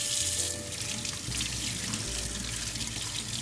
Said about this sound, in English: So first thing you want to do is wash the vegetables in water.